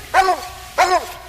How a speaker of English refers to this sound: Man, just listen, what a jaw on a dog.